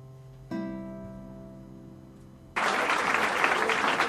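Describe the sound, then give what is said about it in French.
A sustained musical chord rings and slowly fades, then a cabaret audience at Le Lapin Agile on the Butte Montmartre bursts into loud, dense applause that carries on steadily to the end, with no talking. “Encore des applaudissements.”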